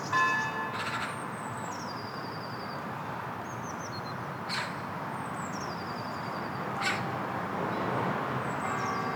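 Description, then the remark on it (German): A small bell rings at the start and its tone fades away, while birds chirp intermittently over a steady background in a city park in Dillingen, with cars rumbling in the distance. “Wir hören Vögel und eine kleine Glocke.”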